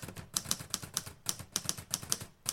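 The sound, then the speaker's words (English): Rapid, uneven clicking of keys on a computer keyboard as someone finishes typing up notes, fairly quiet, with bursts of quick keystrokes and short pauses between them and no voices. “And I'm just going to finish typing up these notes.”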